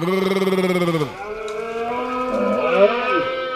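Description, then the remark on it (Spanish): A voice imitates a deer's call: a loud, deep, moaning bellow that drops sharply in pitch after a second, then carries on as a wavering, groaning drone. “¿Tú sabes imitar al ciervo o no?”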